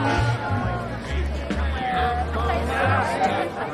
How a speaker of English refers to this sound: Night descends on the town. A crowd gathers around a tree made of stacked lobster cages in the square.